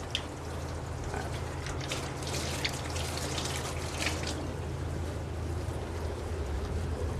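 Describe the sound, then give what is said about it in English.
Hot water runs steadily from a tap in a continuous hiss with faint splashing as people wash their hands before cooking together; no one speaks over it. “I want to make sure that we wash our hands, because that's very important.”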